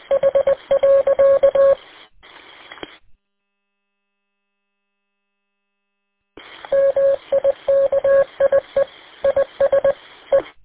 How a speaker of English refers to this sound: Somebody messing around with Morse code. They go to great lengths, you know. Right, he's got one of those, you know, programs that do it.